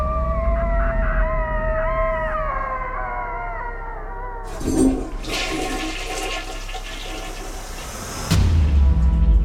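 A long, wavering, mournful howl, a man's long cry of despair like a coyote's, rises and bends for several seconds inside a toilet, then gives way to the loud rushing gurgle of the toilet flushing, with no talking.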